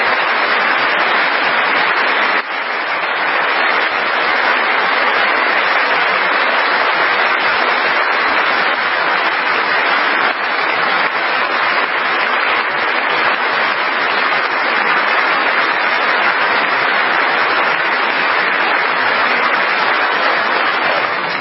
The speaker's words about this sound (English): More clapping.